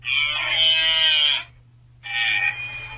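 A white-tailed deer gives a warning call to its herd twice, long then shorter. Each is a loud, nasal bleating cry, separated by a brief silence, with no one talking.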